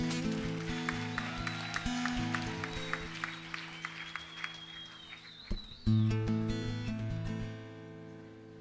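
An audience applauds over sustained music, the clapping steady and moderately loud, fading as the music continues into a louder, fuller passage.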